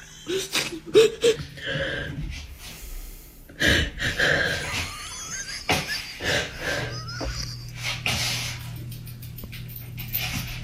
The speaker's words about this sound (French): Elle pleure, là. Elle pleure, là.